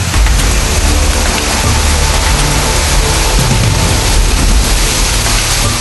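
A waterfall at the Mar de Minas, a lake surrounded by waterfalls and quartzite canyons, roars steadily, its cascading water making a dense, continuous rush that stays loud from start to finish, with no voices heard.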